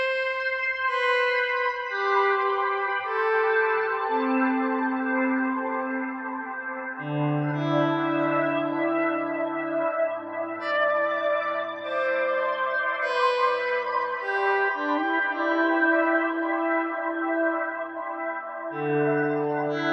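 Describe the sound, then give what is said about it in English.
Guitar notes swell in softly through a slow attack effect that hides the pick attack, one after another, blending into a continuous, echo-washed pad of sustained tones with no talking. “you can use a volume pedal or a slow attack plugin to disguise the giveaway attack of the guitar note”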